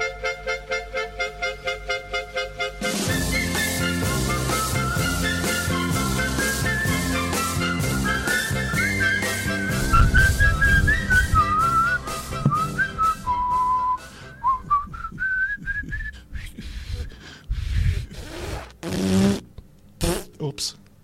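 A bright whistled melody carries a bouncy novelty tune over a brisk band accompaniment with steady rhythmic chords, loud and upfront, ending on a few punchy final hits, played on Radio 9.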